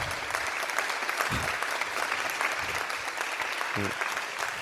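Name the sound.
applause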